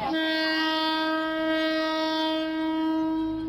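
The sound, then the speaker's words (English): A train horn blares in one long, steady blast over a low rumble as a train passes along tracks lined with shops and awnings, holding its pitch for the whole moment without a break. No one speaks. “But as the end of the train goes by, suddenly the track fills up with people and with awnings and with shops, and within 15 seconds of the train having passed by, it's as if there were no train tracks, as if there was no train.”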